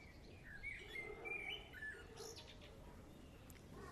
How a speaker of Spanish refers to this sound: Pero lo que sí hay es pájaros